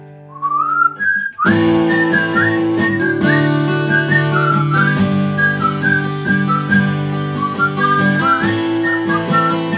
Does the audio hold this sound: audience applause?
no